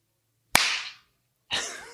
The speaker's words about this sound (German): Ich klatsche einfach mal. Wenn nicht, dann klatsche ich einfach so und alle Hörer klatschen mit.